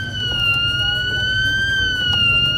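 A swimming pool emergency alarm at the Dolderbad, sounded in its daily test, blares as one loud, steady, high-pitched electronic tone with bright overtones, holding its pitch almost unchanged throughout over a low rumble of background noise.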